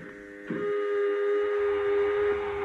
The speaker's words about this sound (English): All right, Doc. Exhaust the airlock. Airlock. Exhaust.